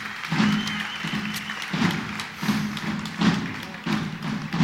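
Steady, regular drumbeats thump about every 0.7 seconds over a noisy crowd, with the audience's applause crackling in the background throughout as fireworks are lit.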